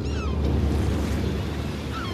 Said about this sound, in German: Morgens um 6:30 im Hafen von Gretzil. Als Erste beginnen den Tag die Fischer und die Möwen.